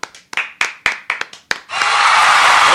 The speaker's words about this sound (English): Oh, got to bring someone louder to clap. Don't clap loud enough for you, huh?